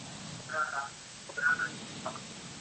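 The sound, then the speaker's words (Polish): A telephone line opening up as a caller comes through on a live call-in broadcast: steady hiss with a few short electronic chirps and blips at a moderate level, and no voices yet. “Jest telefon, prosimy bardzo.”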